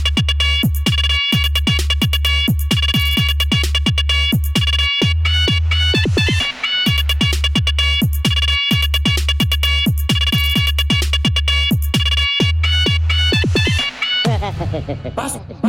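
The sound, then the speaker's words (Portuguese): Car sound system horn speakers, with Tarabs modules and Eros Hammer 7.2K speakers at a sound clash, blast loud, piercing sustained tones over heavy thumping bass and rapid rhythmic hits, staying at full volume throughout before breaking into a short rough burst at the end. “As cornetas gritam muito, é de aterrorizar.”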